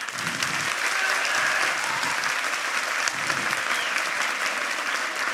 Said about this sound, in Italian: Se volete facciamo una prova di applausometro, cioè mettiamo che ci sia un candidato che vi è piaciuto moltissimo.